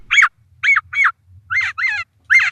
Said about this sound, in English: It's intentional, but the mockingbird knows. It's like, bop, bop. I need something very similar. Oh, of course, the brown-headed nuthatch.